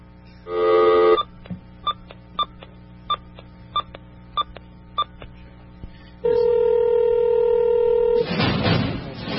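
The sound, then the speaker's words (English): A steady telephone dial tone gives way to a quick series of evenly spaced touch-tone beeps as a number is dialed to phone the movie man, then a sustained ringback tone and a burst of line noise; no one speaks. “It's time to phone the movie man.”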